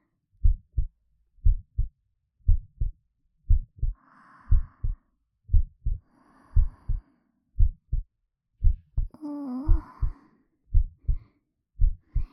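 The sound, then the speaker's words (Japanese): A mother's steady, muffled heartbeat thumps in paired lub-dub beats, heard with an ear pressed to her chest, with soft breaths drifting in and a brief hummed sigh near the end. “ママの心臓の音する？”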